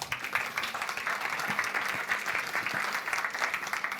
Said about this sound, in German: Ein Applaus an unseren Engel mit dem Mikrofon.